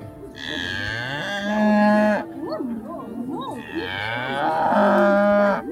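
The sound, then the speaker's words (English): Cattle moo loudly at dusk in Kwetu Kingdom after villagers have driven them into the bomas, two long, drawn-out bellows with a wavering, lower call between them, filling the whole few seconds with no pause. “Dusk has set in, and the villagers who have had a long day have already driven their cattle into the bomas.”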